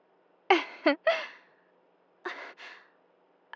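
heavy breathing

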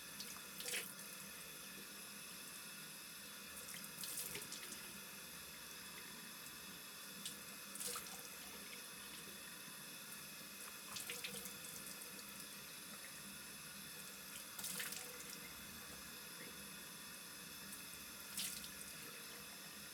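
running tap water

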